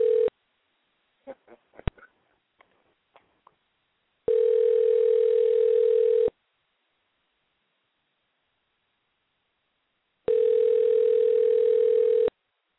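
A telephone ringback tone on a call placed to a woman's cell phone, which goes unanswered: two steady, sustained buzzing rings about two seconds each, separated by a long silence, with a few soft clicks and taps beforehand.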